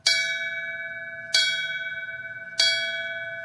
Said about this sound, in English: Champaign firefighters marked the 7th anniversary of the September 11th attacks with the traditional ringing of a fire bell.